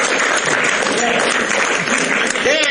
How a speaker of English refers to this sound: started that applause.